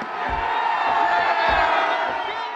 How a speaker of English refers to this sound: It's a pretty large statue, a little more than 11 feet tall. And as it topples to the ground, the crowd goes wild.